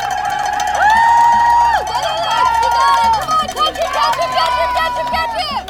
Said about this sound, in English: 7 p.m., the start gun fired. 108 boats charged forward through the water. Crowds cheered on the bank.